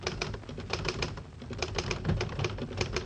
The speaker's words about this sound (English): I'll type it out for you right now on my Underwood typewriter, the only typewriter with the golden touch.